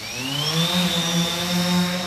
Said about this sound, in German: In einem Käfig im Innenhof der Hochschule Hannover steuert der Ingenieur Manuel Scherlis eine Drohne.